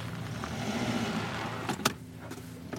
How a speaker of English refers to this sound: I know I live out in the middle of nowhere, but damn, this does not look like someplace you'd want to be. Taking a hearse off-roading?